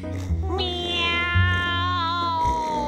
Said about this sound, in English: Meow, yowled the cat.